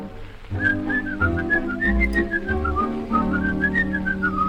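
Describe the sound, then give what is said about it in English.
A person whistles a bright, bouncy melody, a little Swiss whistling song, in flowing, continuous phrases, loud, carried over a steady instrumental accompaniment with no talking. “There's a little Swiss whistling song, and they whistle it all day long.”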